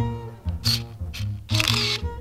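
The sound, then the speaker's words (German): Several crisp camera shutter clicks as a close-up photo is taken, three or four quick mechanical snaps in an uneven rhythm, standing out clearly over a steady, sustained tonal background. “So, und jetzt noch mal eine Nahaufnahme.”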